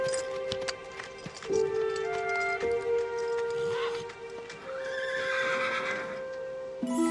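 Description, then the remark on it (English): A horse whinnies with a long, wavering neigh while its hooves clip-clop in an uneven rhythm on a hard surface as it is led from a stable, mounted and ridden off, with a steady background hum throughout. “Richard loops the reins over the horse's head, and Amber takes a photo on her phone. Richard mounts and rides off with a solemn expression, not noticing Amber.”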